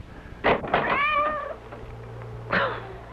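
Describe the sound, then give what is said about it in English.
A soaking wet cat gives one drawn-out, wavering meow at the front door in the middle of the night, framed by a few short scuffing bursts before and after, with a low steady hum in the background and no talking. “That cursed cat.”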